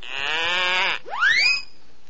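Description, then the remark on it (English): A little goat bleats twice, fairly loud: a long, steady, nasal cry followed by a shorter call that sweeps upward in pitch, with no talking around it. “Little goat bleat, little elves here.”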